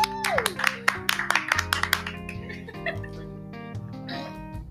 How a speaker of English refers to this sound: We finally made it. First episode. Again, round of applause!